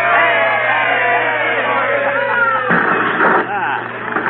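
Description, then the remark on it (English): A crowd of many voices cheers and shouts together as a kerosene-soaked fire is lit, loud and continuous for several seconds, with a brief surge of louder yelling near the end. “Well, let's have a cheer, folks. Here we go.”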